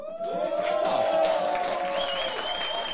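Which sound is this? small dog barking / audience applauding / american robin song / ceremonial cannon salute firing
audience applauding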